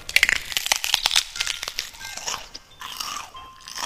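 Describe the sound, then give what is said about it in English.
Sharp, crackly crunches from biting into a hard, waxy synthetic cheese holiday candle, a rapid cluster of bright snaps in the first second or so, then thinner crinkling and a few faint squeaky tones trailing off. “Chomp into what appears to be my skull.”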